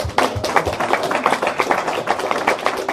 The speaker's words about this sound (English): Join your hands together and give God a big clap offering. Also, gebt jetzt Gott einen großen Applaus.